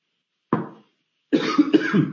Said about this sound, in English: As many of you know, I always start to cough after 40 minutes.